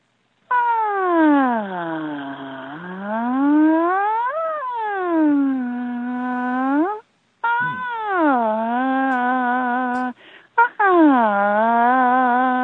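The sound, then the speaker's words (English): A single voice demonstrating a vocal exercise glides smoothly up and down in pitch like a siren, sustained, with long swooping slides and brief pauses between phrases, returning repeatedly to a steady middle tone. “So this I call the siren. So it's sliding your voice up and down.”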